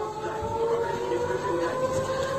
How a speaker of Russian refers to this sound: Сирена орет.